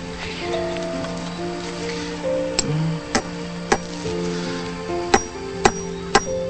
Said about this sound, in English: The displaced soul collector gets a staple, holds it in place, and swings the hammer.